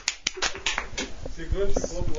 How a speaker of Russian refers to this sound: Чего-то очень тихие аплодисменты. Побольше, давайте, да, тут сотни.